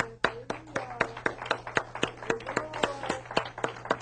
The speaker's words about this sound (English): Let's give her a great hand clap.